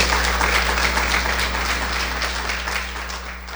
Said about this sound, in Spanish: Dele una ofrenda de palmas a él.